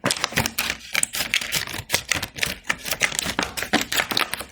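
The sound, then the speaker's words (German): Scissors snip a piece off the top of a milk carton, a quick series of sharp crunchy cuts in an uneven rhythm, with no one speaking. “Erstmal schneidet ihr oben ein Stückchen was ab.”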